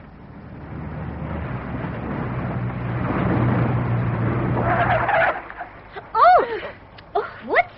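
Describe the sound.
A car engine rumbles and then slows with a brief tire squeal as it brakes to a halt on the way to Yala, stopping for an approaching Buddhist funeral procession, followed by a few short voices speaking over the quieter idle.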